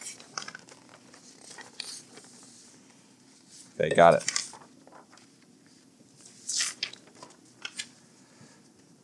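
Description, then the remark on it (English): Sheets of paper that came out of a printer are shuffled into order and rustled, with one loud papery burst midway and a shorter flurry after it, among softer crinkles; a person briefly speaks. “Hold on, I just need to make sure that my things are in the right order because it printed out on my printer.”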